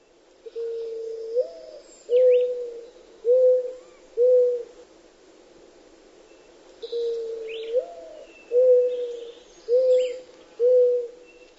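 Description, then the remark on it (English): A mourning dove's soft, mellow cooing repeats twice: a drawn-out rising coo followed by three short, even coos. It sounds clear against a quiet background with faint chirps. “The mourning dove has the familiar melodic call.”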